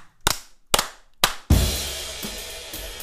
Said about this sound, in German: Bevor ich das erzähle, lass uns mal klatschen. Bitte. Jawohl, also 1, 2, 3 und 4.